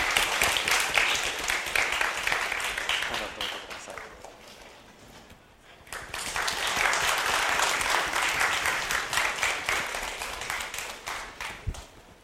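audience applause

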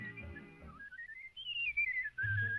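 human whistling a tune

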